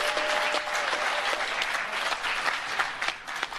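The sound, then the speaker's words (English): A crowd applauding steadily at the announcement that the men and women of the United States Space Force will be known as Guardians, dense overlapping hand claps forming a continuous, fairly loud wash of sound with a few sharper individual claps standing out. “Listen to how they laugh, and I mean, listen to how they clap their hands.”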